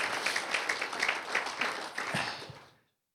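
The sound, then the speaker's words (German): An audience at a worship service applauds God steadily, a dense wash of many hands clapping at once with a few sharper claps standing out, holding even for nearly three seconds before stopping abruptly. “Wollen wir ihm einmal einen Applaus geben?”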